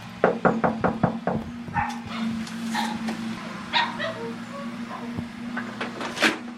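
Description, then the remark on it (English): A quick run of sharp knocks on a door opens, then a small black and white Boston Terrier barks and yips excitedly several times, alerting its elderly owner who may not hear the knock, over a steady low household hum. “may not hear this knock on the door, but her black and white Boston Terrier, Holly, does”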